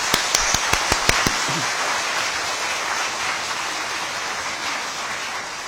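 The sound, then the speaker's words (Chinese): An audience at a Buddhist sutra-lecture exchange meeting breaks into warm applause to thank the lecturing Dharma masters, a few sharp individual claps at the start swelling into steady, dense clapping that continues at an even, moderate level throughout, with no talking. “我们在此呢再次用热烈的掌声对所有宣讲的法师表示感谢，对点名的法师表示感谢。”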